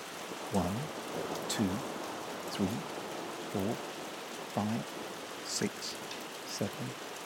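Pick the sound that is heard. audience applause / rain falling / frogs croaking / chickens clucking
rain falling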